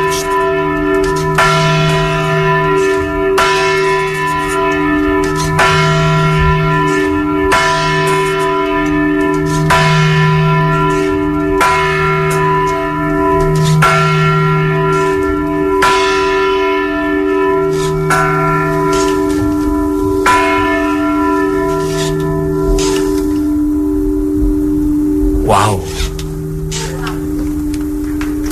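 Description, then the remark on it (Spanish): A single church bell tolls steadily, each strike ringing out with long overlapping resonant hum, repeating at a slow even pace for the whole stretch with no voices. “Ara, només sona una campana.”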